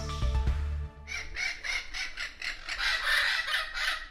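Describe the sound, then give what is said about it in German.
A Spix's macaw, a parrot critically threatened with extinction, gives a run of harsh, raspy squawks in quick succession, loud, after a brief low tonal sound at the start. “Sie hören gerade den Arash Bixara. Die intelligenten Papageienvögel sind akut vom Aussterben bedroht.”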